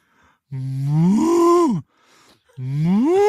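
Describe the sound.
A person imitates a cow, letting out a long, loud moo that rises and falls, then starts a second moo after a short pause. No other talking is heard.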